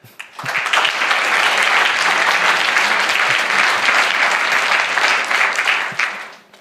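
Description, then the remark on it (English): A crowd claps steadily for several seconds, a dense, loud wash of applause that swells in quickly, holds even, then tapers off at the end, as an audience welcomes a speaker about to give a talk on physical pagers and their security. “So please give a warm round of applause for Philip.”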